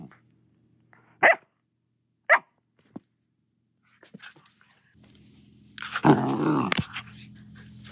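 Jet, a black lab terrier mix puppy adopted from a shelter, lets out two sharp, high barks a second apart, then after a pause breaks into a longer, louder stretch of rough barking and growling, over a low steady hum.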